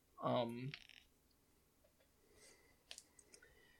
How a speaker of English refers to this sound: It's me, it sounded me picking up a bunch of dice at once, even though there's not much point to that because I only roll one at a time.